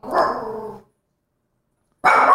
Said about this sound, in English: Can I help you, buddy? What are you doing, buddy? Did you see a cat? Did you see a cat? You barking at, buddy?